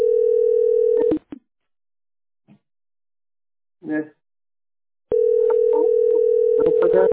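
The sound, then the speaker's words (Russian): A steady telephone ringing tone on the line, two long, evenly pitched bursts separated by a quiet gap with a couple of faint, brief clicks and murmurs in between. “Да, вот здесь звонит.”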